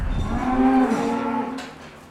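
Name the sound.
cows mooing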